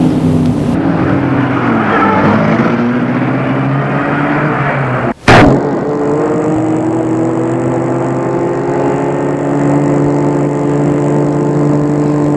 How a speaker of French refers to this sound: Il met la voiture en route.